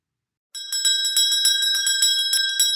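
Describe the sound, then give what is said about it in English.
A bell rings rapidly and continuously after a brief silence, its bright metallic strikes repeating in a quick, steady trill. Loud, with no voices; the bell in a reading of Shakespeare's Macbeth, called a knell. “I go, and it is done. The bell invites me.”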